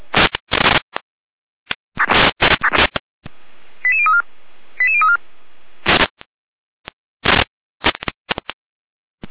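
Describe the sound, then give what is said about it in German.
Bursts of harsh radio static and noise give way to a sequence of short, distinct electronic alert tones in quick succession, an alarm call from the Gera emergency dispatch center, followed by more choppy static bursts. “Leitstelle Gera mit Alarmierung.”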